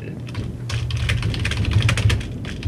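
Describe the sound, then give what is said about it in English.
Rapid, continuous typing on a computer keyboard, a dense flurry of crisp key clicks with a low hum running underneath and no voices. “Somebody's typing furiously.”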